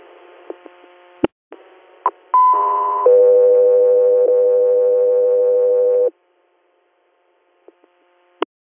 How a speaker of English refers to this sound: Echo 3 Air, stand by for tones.